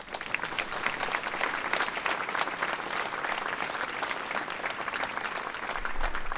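A concert audience claps steadily and densely for several seconds after the accordionist who composed the next piece is introduced, a continuous crackling wash of many hands at fairly even loudness, with no voices standing out.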